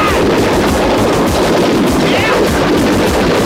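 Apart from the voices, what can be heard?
aircraft cannon fire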